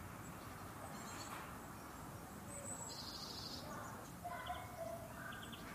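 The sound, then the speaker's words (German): Scattered high chirps and short calls from birds in the trees on a freezing early-spring day, over a steady outdoor background hiss, with a few brighter bursts of song near the end. “Da hört man auch noch etwas in den Bäumen.”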